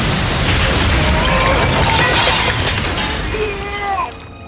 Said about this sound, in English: Explosion in the warp room. They pushed the engines too far.